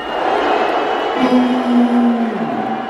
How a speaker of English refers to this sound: All those people are booing, and I'm just pointing out the obvious.